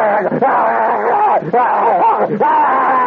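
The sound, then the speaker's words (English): A man's voice lets out a loud, sustained, frantic yelling cry, imitating a panicked shout in rising and wavering bursts with brief breaths between, strained. “So he would come, all of a sudden, he'd come bursting out, and he would just, you know, that kind of frantic yell.”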